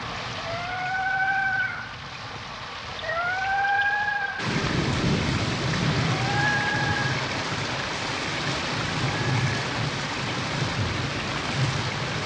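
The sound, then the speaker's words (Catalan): Heavy rain pours steadily over a cave while lightning flashes and low thunder rumbles, the storm swelling suddenly louder a few seconds in. Faint rising whistles drift over the downpour early on, and no one speaks. “La resplendor dels llamps il·lumina la cova.”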